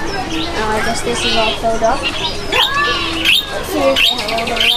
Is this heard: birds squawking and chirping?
yes